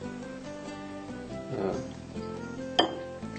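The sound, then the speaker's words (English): Flour and warm water being mixed in a bowl: a soft scraping stir, then a single sharp clink of a utensil against the bowl, all fairly quiet over a steady low hum, with no talking. “Do you want to mix them up?”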